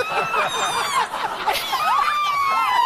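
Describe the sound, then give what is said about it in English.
A woman screams and squeals with excitement, high-pitched, her voice sliding up and down in continuous shrieks for a few seconds with no words. “That woman screaming, yeah. Not saying a word on that sound clip, is in studio with us.”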